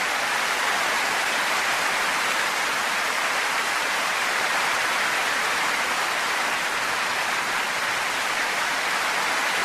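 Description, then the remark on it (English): A crowd gives a female guest singer a round of applause, clapping steadily for about ten seconds in a dense, even wash that holds its loudness from start to finish with no voices over it. “Ladies and gentlemen, give her a round of applause.”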